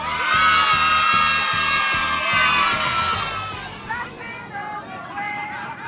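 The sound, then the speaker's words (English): About 200 children aboard an aeroplane shouting and cheering together for Santa's arrival, a loud, high-pitched sustained roar that swells at first, then breaks into scattered yells and whoops before easing off slightly. “If you shout when you hear it, I'll know that Santa's arrived.”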